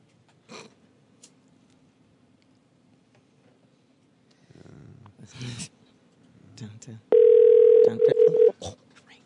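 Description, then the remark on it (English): A loud, steady telephone dial tone hums for about a second and a half after a disconnected call, preceded by faint clicks and rustling handling noises. “I think we got disconnected. Call him back.”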